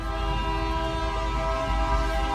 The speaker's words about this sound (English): If you only have the audio, well, you just hear the audio of the train colliding with the truck.